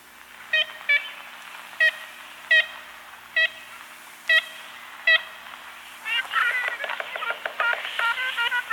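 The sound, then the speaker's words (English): Short nasal, horn-like toots of an ivory-billed woodpecker, recorded on an ornithological expedition to Louisiana in 1937: about eight evenly spaced single notes, then a rapid, excited burst of overlapping calls from about six seconds on, over steady background hiss. “you'll probably never hear in the wild, the call of the ivory-billed woodpecker.”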